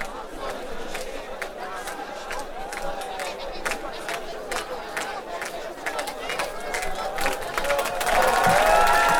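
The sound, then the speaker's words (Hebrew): An audience at an evening event in the city of Elad, Israel, claps in scattered, uneven bursts while shrill whistles cut through the murmur as Elad mayor Rabbi Yisrael Porush is called up, the clapping and whistling growing louder and denser toward the end. “בעיר התורה והחסידות לא שורקים, מותר למחות כפיים.”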